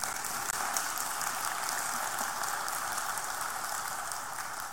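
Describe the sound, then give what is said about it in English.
A dense, steady wash of clapping from many hands, loud and continuous throughout without pauses or voices, a crackling hiss that holds even from start to finish. “Well, give them one more round of applause.”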